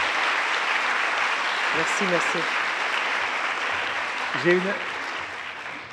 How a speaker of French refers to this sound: Oui, on va vous applaudir. Merci.